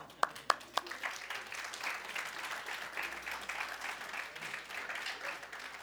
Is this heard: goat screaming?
no